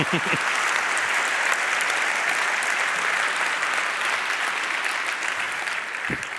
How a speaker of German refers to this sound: Applaus für die Seidenstraße.